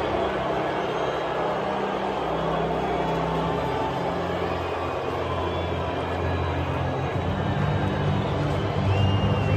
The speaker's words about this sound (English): You can hear the boos raining down